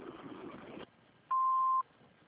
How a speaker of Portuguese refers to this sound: Após o sinal eletrônico, quero deixar seu nome, recado e telefone